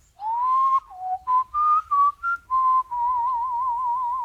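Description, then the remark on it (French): A person whistles a birdlike melody imitating a nightingale: a rising sustained note, a run of short bright chirps, then a long warbling trill, clear with no talking. “Ça, c'est la mélodie du rossignol.”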